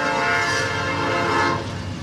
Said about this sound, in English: A good deal of the daytime traffic through Homer, Illinois, is on the Norfolk Southern line that splits the town in two. When the trains speed through and the gates go back up on Route 47, Homer's Main Street gets a smattering of traffic